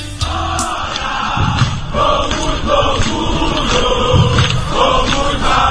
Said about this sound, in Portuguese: A torcida do Vitória comemorando muito! Olha a torcida do Vitória aí, ó!